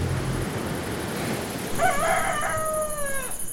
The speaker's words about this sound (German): Mazunte, ein kleines Dorf am Meer im Süden von Mexiko. Tropisch warm. Mücken schwirren herum. Noch bevor die Sonne aufgeht, krähen die Hähne unerträglich laut.